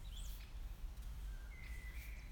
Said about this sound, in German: Es tut so gut, hier zu sitzen. Nichts zu tun, sondern einfach zu hören, die Atmosphäre des Waldes zu fühlen, den Vögeln zuzuhören und dir davon zu erzählen.